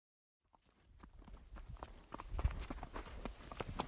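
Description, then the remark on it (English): Steady hoofbeats of a horse being ridden up through sagebrush in a valley about four hours north and east of Seattle, Washington State, near a town of about 600 people, with rustling and brushing sounds as it moves through the dry brush, growing slightly louder, with no voices. “I'm riding my horse up through the sagebrush out back where I keep her at a friend's place in the valley I live in, which is about 4 hours north and east of Seattle over the mountains.”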